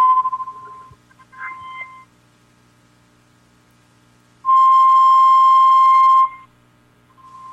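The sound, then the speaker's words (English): Experimental noise music made with metal, junk and feedback: faint wavering electronic tones and bleeps, then a loud, piercing feedback whine holding steady for nearly two seconds before cutting off, with a softer tone returning at the end. “Oh, just like metal and junk and, you know, feedback and...”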